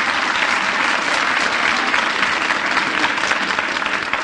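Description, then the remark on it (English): Sustained audience applause for a dog named Miff, introduced as playing jazz trombone; a dense wash of many hands clapping steadily and fairly loudly for several seconds with no break and no voices. “Now, let's have a little applause here for Miff.”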